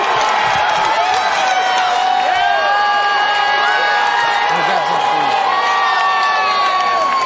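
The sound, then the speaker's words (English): A large arena crowd on their feet roars and cheers continuously after the referee stops a fight, with shrill whoops and whistles rising over a dense, loud wall of voices that stays steady throughout. “Crowd is on their feet.”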